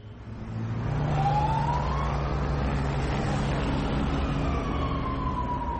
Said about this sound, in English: A police car speeds out of the temporary police station in Dipsluit.